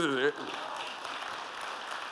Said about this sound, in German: Oder es ist, du kannst gerne klatschen, ich meine, come on.